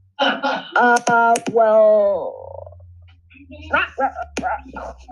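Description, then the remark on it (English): A person imitates a dog with a quick string of loud barking yelps that trail into a drawn-out falling whine, followed by a few shorter vocal bursts over a low hum. “My dog and me keep some barking”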